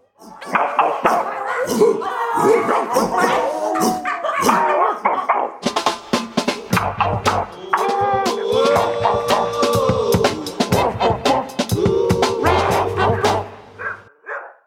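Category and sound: animal, pack of dogs barking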